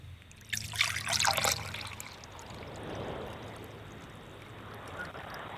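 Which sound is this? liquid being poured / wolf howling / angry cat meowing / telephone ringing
liquid being poured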